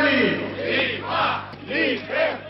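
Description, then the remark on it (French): A large crowd of demonstrators marching for private education in the capital chants in rhythmic bursts, voices rising and falling together in roughly four swells, loud and steady over a continuous low hum. “Aucun leader ne prendra officiellement la parole durant cette manifestation.”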